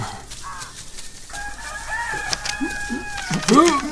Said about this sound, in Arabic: أنا رسالتي إلى القاضي وأشكو من الديك ومن صوته المزعج.